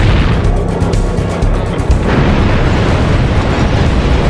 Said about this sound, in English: Hey, buddy! This button for the 20mm cannon? Yeah, sure is. All right, then.